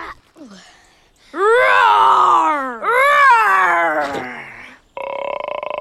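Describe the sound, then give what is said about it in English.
Two long, loud voiced roars, one right after the other, rising and falling like growling groans: a person imitating young dragons roaring. A short buzzy tone follows at the end. “A year went by, and in year two, the dragons learned to roar.”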